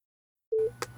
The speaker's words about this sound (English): You awaken, gasping for air, the beeping sounds of monitors around you.